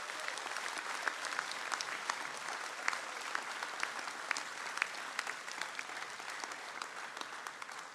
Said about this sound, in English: So again, please a big warm round of applause for Kealakehe High School.